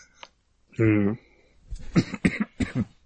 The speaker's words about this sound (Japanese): うん。もう咳しまくってるけどね